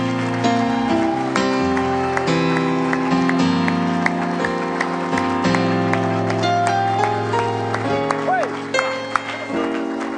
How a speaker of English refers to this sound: Everybody said in Jesus' name. Would you give the Lord one more hand clap of praise?